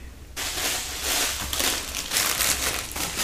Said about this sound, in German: Wir verteilen jetzt erstmal die Zettel.